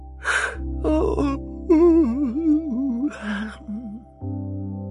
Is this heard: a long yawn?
yes